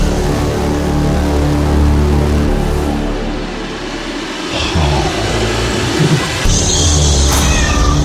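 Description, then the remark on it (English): A cat meows in long, drawn-out wails over a steady low rumble, fairly loud, with no one talking. “Milo, the cat's in the background, like, chilling out”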